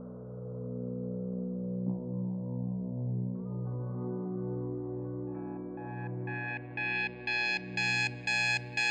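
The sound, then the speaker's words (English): An alarm clock starts beeping in quick, steady pulses, about two per second, rising out of a low humming drone and growing louder and brighter toward the end. “The alarm goes off.”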